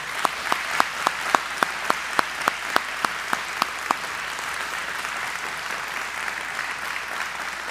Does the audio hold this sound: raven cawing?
no